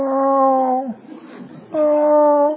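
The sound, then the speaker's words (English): A person voices a drawn-out whining whimper, imitating a dog, in two sustained tonal bursts separated by a breathy, noisy middle section. “I don't know if that's what dogs do, but that's the best I can do because I'm not a dog.”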